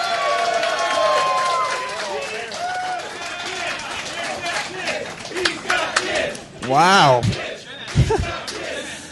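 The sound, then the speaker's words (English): A lively audience claps and cheers throughout as it votes by applause for a contestant, with loud whoops and shouts rising above the steady applause near the end. A voice briefly exclaims over the crowd. “See, that's going to be the difference maker because no one is reserving their applause for one candidate.”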